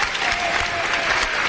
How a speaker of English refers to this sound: I'm not, maybe to be polite, you got to applaud. I don't know how that. I like the 5 second break before somebody finally went, well, I guess we should just, I mean, maybe.